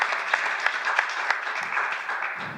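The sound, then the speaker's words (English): A church audience claps steadily, many hands overlapping into a dense, continuous patter with a few sharper claps standing out, moderately loud, with no one speaking. “And let's just, you know what, let's clap our hands.”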